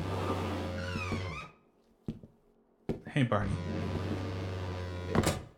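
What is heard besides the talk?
door opening or closing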